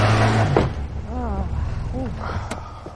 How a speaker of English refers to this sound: In a parking lot, a truck's tires spin in a snowbank. Looks like someone needs some help.